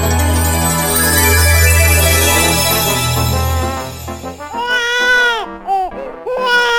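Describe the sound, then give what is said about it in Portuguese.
A baby cries loudly and close by, starting in a steady wail and then breaking into a series of strained, rising and falling sobs with short gaps for breath. “Eu acho que esse menino não tá bem. Ele tá chorando muito hoje.”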